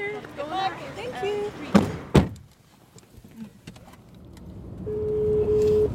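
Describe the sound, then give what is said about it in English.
Car doors thunk shut twice after some muffled voices, then a steady engine and road roar swells up, with a droning hum as the car picks up speed on a highway to Cortona, reaching about 100 miles per hour. “We're barreling down the highway at like 100 miles an hour.”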